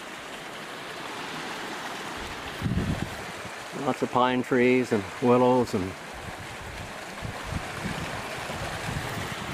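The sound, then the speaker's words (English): Steady rushing of creek water runs through the whole recording, a constant outdoor wash with a person briefly speaking over it partway through. “And I could also take her in the car and show her the creek when we take off.”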